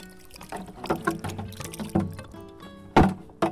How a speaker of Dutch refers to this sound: Ze giet het water rijkelijk over de gele chrysanten die op het zwarte marmeren graf van haar zoon Roderick staan.